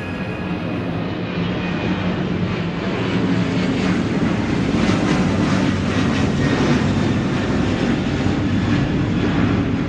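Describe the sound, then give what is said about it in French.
A loud, low airplane roars steadily overhead for the whole stretch, its broad engine drone swelling slightly midway with a whooshing rush, no voices present. “L'avion qui les survole est étrangement bas.”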